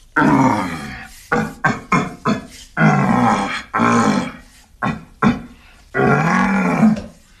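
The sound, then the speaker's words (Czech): A deep, hoarse red deer stag roar imitated by a person blowing through a large wooden trumpet-like call: long bellowing groans broken by a run of short, grunting bursts, loud with no talking. “Ano, to je řevnice. Trubka. To je řevnice na jeleny.”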